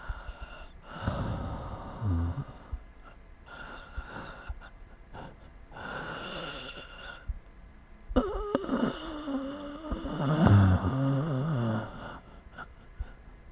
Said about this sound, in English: we're just listening to your breathing. Can you open your mouth a little bit?